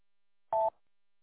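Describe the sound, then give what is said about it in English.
A brief burst of packet radio modem transmission: one steady, mid-pitched electronic tone lasting about a fifth of a second, loud and alone with silence around it and no voices. “Well, that's a different story because each one has a different transmit delay and each modem sounds kind of different.”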